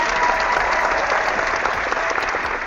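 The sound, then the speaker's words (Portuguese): A round of applause: many hands clapping in a dense, steady wash of crackling claps that stays loud throughout, with no voices standing out. “Salva de palmas aí, que é sensacional.”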